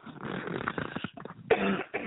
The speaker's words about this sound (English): and I'm coughing now, so I'm sorry if everyone's hearing me coughing. I'm trying to avoid it.